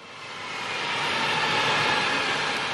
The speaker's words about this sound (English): Hundreds of people watched the last of the Boeing C-17 military cargo planes manufactured in Southern California take off from Long Beach yesterday.